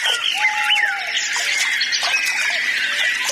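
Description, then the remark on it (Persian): Several birds call and chirp at once, a busy overlapping chorus of high whistles and squeaky notes that holds steady throughout, with no talking. “فضا با پرندگان زیبا معلوم می شو و آبم با ماهیان.”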